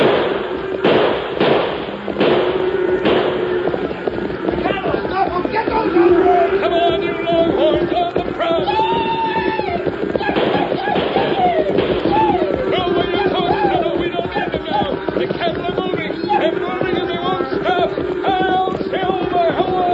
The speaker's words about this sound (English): Shoot into the air, Tonto. Stampede them.